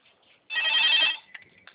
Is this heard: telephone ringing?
yes